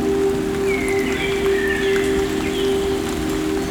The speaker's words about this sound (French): Et une légère pluie à présent.